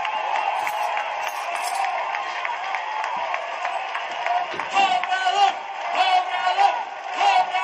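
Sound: crowd applauding and cheering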